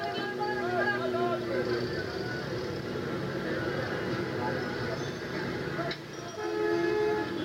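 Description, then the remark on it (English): Car horns honk over and over in a traffic jam, several overlapping blasts at different pitches layered over a constant loud rumble of engines and street noise, with murmuring voices mixed in. “It's as if drivers are using their horns to create even more chaos.”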